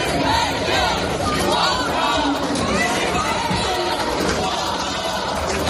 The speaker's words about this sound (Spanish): Este pacto mata, votad no, gritaban. Eran una veintena de activistas intentando frenarlo in extremis, mientras lanzaban aviones de papel a los eurodiputados.